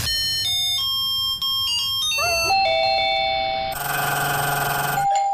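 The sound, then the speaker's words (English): A series of bright electronic chime melodies from fancy musical doorbells, sent in as WhatsApp voice memos, plays in quick succession, each tune made of sustained tonal notes with rich harmonics, fairly loud, with no talking over them. “Yeah, if you've got a fancy doorbell, or if you know someone who does, or if you've ever come across one, just voice memo it to us in WhatsApp.”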